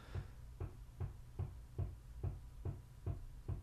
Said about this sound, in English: Someone's hammering next door. Yeah. I wonder if that'll pick up on the mic.